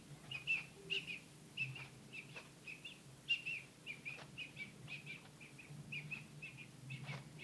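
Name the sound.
bird chirping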